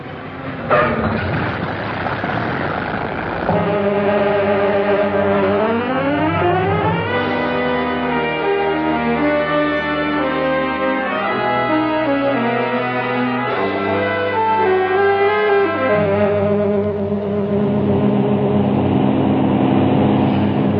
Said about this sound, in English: Have been airborne 8 hours. Altitude 20,000 feet. Magnificent day. Plane running very smoothly. Engines in perfect condition. No wind. Ideal weather for flying.